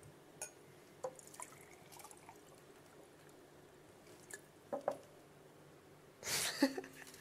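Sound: water poured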